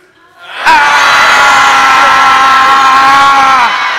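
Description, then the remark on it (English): A group of voices bursts into a loud, sustained collective yell on a count of three, beginning abruptly and holding at full strength for about three seconds before trailing off. “So on a count of three, all of us start yelling as well.”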